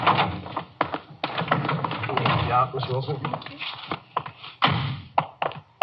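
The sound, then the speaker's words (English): A door is handled and opened: a series of sharp clicks, taps and dull thunks, with muffled voices murmuring underneath. “Just a minute, I'll get the door here.”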